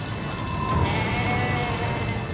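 Goats bleating in a steady, overlapping chorus over a couple of seconds, a wavering nasal call riding on a busy background of animal noise with no one speaking.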